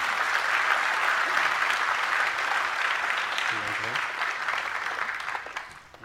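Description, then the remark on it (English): A crowd applauds to recognize people who deployed and served, receiving service pins, with steady, dense clapping that holds strong for several seconds, then thins and fades toward the end, with a brief voice murmuring partway through. “Let's give them a round of applause if we could.”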